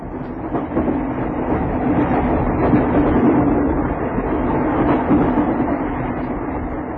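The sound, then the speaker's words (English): A train speeds across the desert, rumbling steadily along the tracks in a continuous loud roar with faint rhythmic rattling of wheels, sustained throughout without any voices. “One day, while one of these porters was out with Grogan, acting as gunbearer, they saw a train speeding across the desert.”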